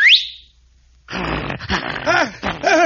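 A quick, shrill whistle, given by Friar Tuck to his dog, sweeps sharply upward in pitch, then cuts off. After a brief silence, loud rough, noisy bursts with wavering, arching tones take over and continue to the end.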